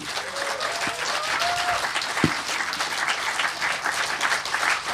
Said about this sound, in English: Well, how about a warm round of applause for the EMF camp organizers?